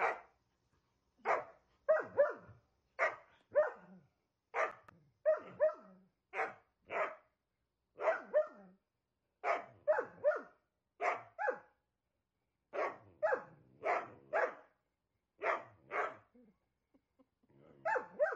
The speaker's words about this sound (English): Coming up next, dogs love barking.